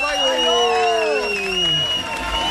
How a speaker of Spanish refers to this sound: Va, per tancar aquest circ de coses increïbles, farem un número final i per executar-lo rebem amb un fort aplaudiment el nostre ministre de clavegueres